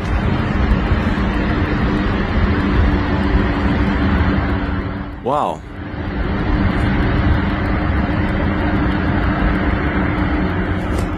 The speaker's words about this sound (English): Wow, I can hear a chopper in the background, correct me if I'm wrong. Seems like there's something going on here. So this is in China